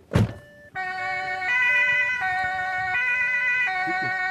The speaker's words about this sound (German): So, und jetzt bitte mit Blaulicht und Martinshorn schnell zurück in die Redaktion.